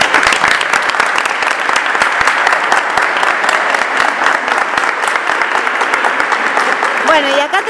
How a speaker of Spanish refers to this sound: Muchísimas gracias a los tres y aplauso para los tres.